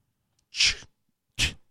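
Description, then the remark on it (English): Two sharp, loud sneezes in quick succession, each a sudden hissing burst with a short gap of quiet between them and no talking. “Bless you.”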